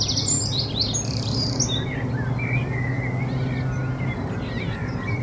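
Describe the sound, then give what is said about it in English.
Birds chirp and warble in bright bursts over a steady low rumble, the calls loudest early then thinning into scattered fainter tweets, with no one speaking. “It sounded a little like this.”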